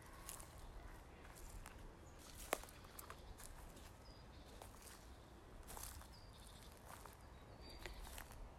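Soft footsteps walk at a steady pace, a series of quiet crunching steps against a faint hiss of background noise, with no one talking.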